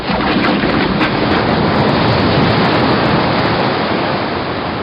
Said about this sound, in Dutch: De rest van de geleerde woorden ging ten onder in het geraas van een grote watergolf die plotseling uit de zijbuis naar binnen spoelde. En op deze golf was de voorkant van een primitief vaartuig zichtbaar.